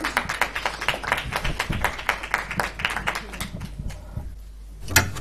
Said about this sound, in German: Applaus für Ruth, die auch sehr gut aufgelegt hat vorhin.